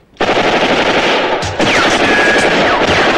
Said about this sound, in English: Vulcan falls in the hail of machine gun bullets.